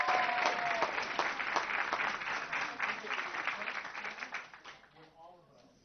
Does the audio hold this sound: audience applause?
yes